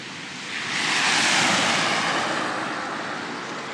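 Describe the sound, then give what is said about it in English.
A car passes on a wet, slushy road in the rain as snow begins to settle, a broad hissing rush of tyres that swells over about a second, peaks, then slowly fades while staying fairly loud. No voices are heard. “Here comes a car.”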